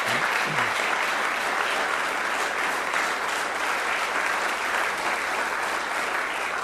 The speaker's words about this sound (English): Give them a round of applause, ladies and gentlemen.